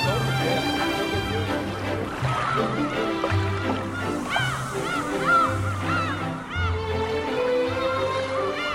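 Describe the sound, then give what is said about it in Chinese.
A flock of seagulls from Siberia calls continuously while circling over Dianchi Lake at Haigeng Dam in Kunming in February, catching food thrown by tourists; their sharp overlapping cries rise and fall throughout, loud, over a steady backdrop of low sustained musical tones. “来自西伯利亚的海鸥盘旋在空中，精准地用嘴衔住游客们抛出的食物。”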